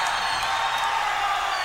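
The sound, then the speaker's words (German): A concert crowd cheers in a steady, dense roar of many voices, with a few whoops rising above it. The sound stays loud and even throughout, and no one speaks clearly. “Und jetzt kommt das Publikum.”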